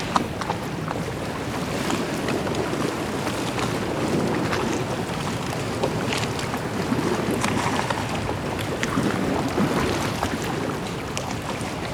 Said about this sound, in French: Puissance de la mer et du vent qui cogne les côtes de cette petite île au large de Cannes. Bien évidemment, ce site est protégé.